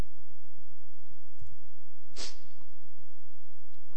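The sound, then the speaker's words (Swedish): A single short, breathy sniffle cuts through a quiet, steady background hiss, a quick nasal intake of air lasting only a moment with nothing else happening around it. “Väldigt effekt sen när jag snörvlar lite grann.”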